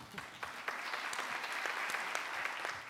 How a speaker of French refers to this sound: Voilà. Merci beaucoup. Je propose qu'on l'applaudisse également.